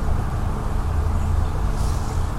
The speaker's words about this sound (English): And you can hear there's some traffic on Route 23